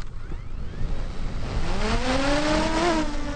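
Drone motors spin up with a whirring hum whose pitch climbs steadily over a few seconds, layered over steady rushing noise, as the drone starts a flight to photograph bubble-filled ice at a dam. No one speaks.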